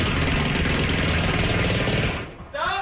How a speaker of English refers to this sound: Here's the audio of this guy trying to attempt to break this Guinness Book of World Records. Here you go. Ready, set, go! Isn't the balloons popping? Kind of sounds like a motorcycle or a gun. A terrible motorcycle.